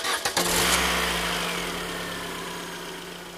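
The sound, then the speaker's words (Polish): A man in the front seat of a blue Fiat taxi turns the ignition key. The engine cranks with a few quick rattling bursts from the starter, then catches and settles into a steady, low idling rumble that slowly fades a little. No one speaks. “Ku zaskoczeniu taksówkarza, mężczyzna siedzący z przodu przekręcił kluczyk w stacyjce.”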